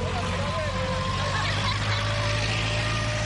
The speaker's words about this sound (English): That's not a heavy truck. It is a machine which is finalizing the construction.